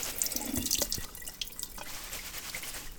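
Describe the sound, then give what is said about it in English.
Running tap water splashes into a sink, with scattered drips and the soft rustle of nettle leaves being rinsed under the stream, steady for a few seconds. “We're just going to rinse off our nettles.”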